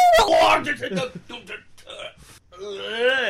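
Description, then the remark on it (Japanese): A person cries and wails, with choked, broken sobbing sounds that end in a loud, drawn-out, wavering wail. “なんかね、ポセイドンとか言ってたけど、泣いてただけだったね。”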